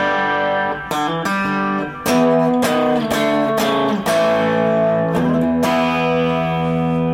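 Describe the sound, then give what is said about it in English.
An overdriven electric guitar plays a rockabilly rhythm of ringing chords with sharp attacks, treated with a short slapback echo and tape-saturation overdrive from a Deco pedal. It is loud and alone, with no talking. “I can add that to the rockabilly sound I get.”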